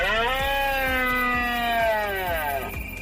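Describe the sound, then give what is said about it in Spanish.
A red deer stag's rutting roar during the autumn rut (la berrea) in La Rioja, Spain: one long, harmonically rich bellow lasting nearly three seconds, its pitch sliding slowly downward, with regular low pulses beating beneath it. “Se conoce comúnmente como Berrea o Brahma, el periodo de celo del ciervo rojo, debido a ese sonido gutural que emiten los machos.”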